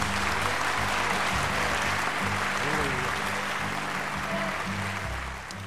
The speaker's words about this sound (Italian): L'è finita. Applaudi. L'è finita la canzone. Applaudi. Applaudo.